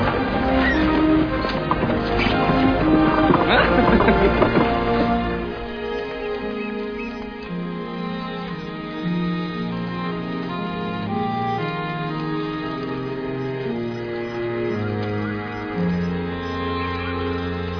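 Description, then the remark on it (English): Horse hooves clip-clop with a wagon for the first few seconds, rattling, then fade as sustained music carries the rest. “Riding in the back of the wagon with the women. Should have known to bring my own horse.”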